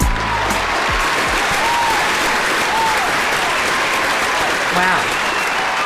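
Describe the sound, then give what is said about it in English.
Canned, prerecorded applause played to open a dating show: steady, dense applause from a large crowd, loud and continuous for the full stretch, with a few faint cheers and whoops rising briefly above the clapping. “Even a canned applause feels good.”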